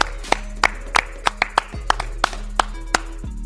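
clapping

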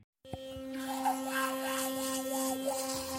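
electric toothbrush brushing teeth

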